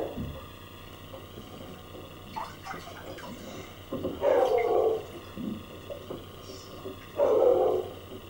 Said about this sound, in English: There's another dog barking up there.